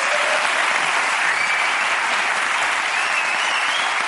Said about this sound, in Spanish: Vale, pues yo creo que esta explicación técnica merece un aplauso a la ciencia, porque joder...